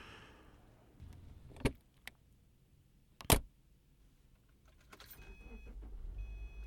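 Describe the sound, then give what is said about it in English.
Car doors thump shut a couple of times, followed by a faint jingle and then an engine starting up and settling into a low, steady idle, with no talking. “Now, we should probably get in the car before someone yells at us for holding up the people traffic.”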